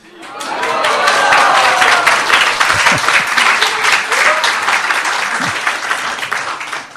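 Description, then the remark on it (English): Sustained applause from a sizable audience, many hands clapping in a dense, steady wash that swells quickly and holds for several seconds, with a few faint voices and whoops mixed in. “Wow, you're an easy crowd to please.”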